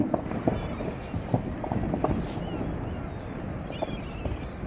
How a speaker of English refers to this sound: This is how it sounds and how it looks when the ice cap meets the sea. You see the azure blue of the ice there that's caused by the great pressure of the glacier above it, of the ice cap just weighing down on the ice.